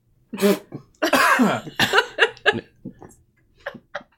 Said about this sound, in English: Could you turn your head 40 degrees to the right? And cough.